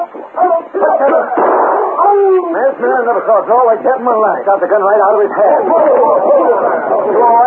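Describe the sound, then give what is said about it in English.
A dog barks and snarls ferociously in a loud, continuous flurry lasting several seconds as it attacks a man and gets the gun out of his hand, with agitated voices mixed in, all carrying a thin, band-limited old-recording tone. “Man, I never saw a dog like that in my life. Got the gun right out of his hand.”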